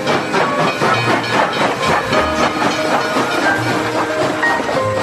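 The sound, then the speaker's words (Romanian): A train pulls away from a small station amid a loud, steady hiss of steam, with faint rhythmic chugging and rattling running through the whole stretch and no voices. “La pornirea trenului, aruncă sticla goală de suc într-un bătrânel de pe peron.”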